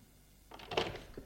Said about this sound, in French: La porte de sa chambre qui s'ouvre.